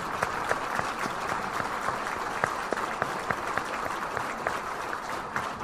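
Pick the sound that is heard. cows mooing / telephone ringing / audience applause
audience applause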